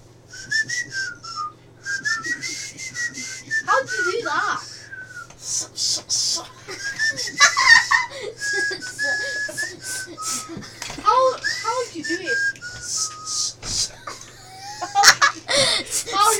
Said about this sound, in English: You kind of put you kind of whistle through your bottom teeth and then you put your tongue over it. No, you know you're blowing too hard. It's just put rest your tongue on your bottom teeth, and then you gotta put your top put your top teeth